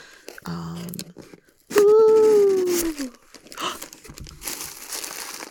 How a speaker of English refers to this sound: I got the tape undone. Let's open the box.